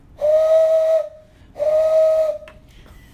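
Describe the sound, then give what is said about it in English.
Two long, breathy hooting blasts blown through cupped hands, each held for under a second with a short pause between, imitating a Ukrainian train whistle. Fairly loud, with airy hiss around the steady tone. “If you could put your hands together and then a certain way and blow into them.”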